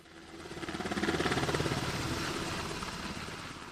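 A Coast Guard MH-60 helicopter returning from a training flight in Kotzebue drones steadily, its rotor producing a rapid rhythmic chop over a broad engine roar that swells slightly louder in the middle, with no voices present.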